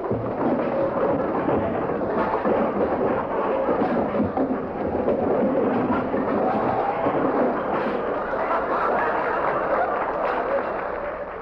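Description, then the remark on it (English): A famous radio sound effect: the contents of a cluttered hall closet come crashing out in one long, loud cascade of clattering and banging, a dense rumbling jumble that keeps tumbling for over ten seconds without letting up. “No. Not that door. That's the hall closet.”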